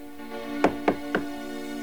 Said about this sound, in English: A knock on an unlit door.